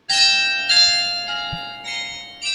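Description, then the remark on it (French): A carillon of 48 bells in the dormer of a castle's eastern tower plays a melody, each bright strike ringing with long, shimmering overtones that overlap and sustain, heard clearly and at steady volume with no voices. “Chaque jour à 9h05, midi 5 et à 17h05, vous pouvez entendre les 48 cloches du carillon jouer dans le chien assis de la tour orientale du château.”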